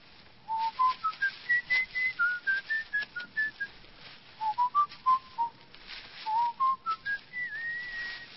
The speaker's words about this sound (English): What's that you're whistling? I don't know, some song I picked up. …, I think they call it.